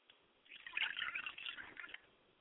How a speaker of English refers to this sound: I pour a libation and a glass of water for my mother's spirit, and I say Ashe.